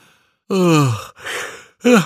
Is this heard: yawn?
yes